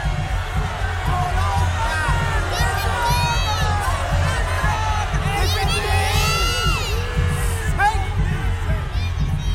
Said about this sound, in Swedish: Ute på torget fortsätter folket att skrika och härja.